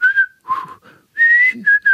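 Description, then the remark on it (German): A person whistles a short melody with clear sustained notes that rise and fall across several phrases, separated by brief pauses, with no talking. “Kannst du es nochmal pfeifen?”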